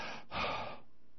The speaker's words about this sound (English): That's mouth breathing, by the way.